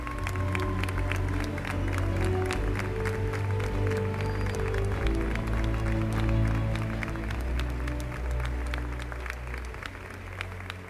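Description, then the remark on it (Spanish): Sustained audience applause given in tribute to one man present fills the whole stretch, dense rapid clapping from many hands holding steady and loud, easing off slightly toward the end, with a low murmur of crowd underneath. “Y este es el aplauso más importante.”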